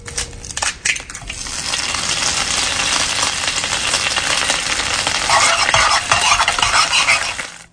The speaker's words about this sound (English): How about an egg cracking in a frying pan and getting scrambled?